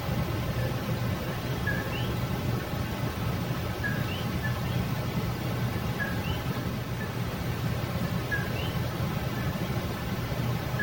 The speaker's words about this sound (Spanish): Y lo que suena es coquí, una pequeña rana endémica de Puerto Rico.